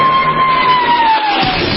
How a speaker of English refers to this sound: Okay, 25,000 cheering extras.